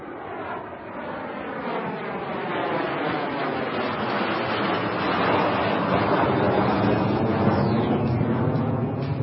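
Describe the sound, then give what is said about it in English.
A loud, continuous roar of jet engines from a low-flying plane, steady throughout, with a faint whining tone that shifts slightly as the aircraft passes overhead. “And by the way, if you were in that area, you could hear the roar of the engines.”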